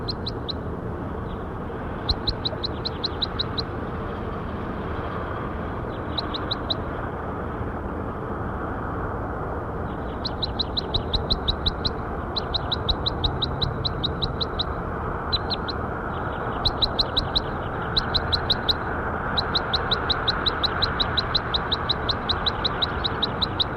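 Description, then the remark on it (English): A bird, recorded as bird 5-7, calls repeatedly in rapid bursts of high, sharp chirps, with short pauses between the series, over a steady low background rumble of outdoor noise. “That was bird 5-7.”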